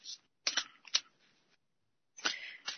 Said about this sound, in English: I'm going to pull some cards, and I'm getting the cards out, and I'm going to start shuffling some cards.